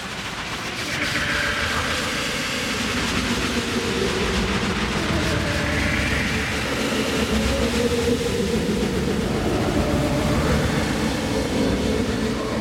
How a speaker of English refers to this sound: The train is now departing Beta Station 2 from the WellDroid Remix platform to start our sonic adventure.